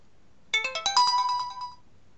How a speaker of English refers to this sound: This is … with the contents of my ringtone folder. Let's get the phone and we're going to start.